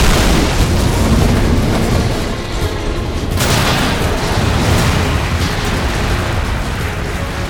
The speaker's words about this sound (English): He aimed under the helicopter's snout for the chin turret containing its Gatling gun, and many, many rounds of extremely explosive ammunition, which exploded right away.